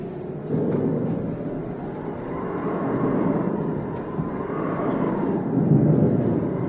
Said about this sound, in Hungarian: Vihar készülődik, a tenger vadul dobálja az imént érkezett hajót.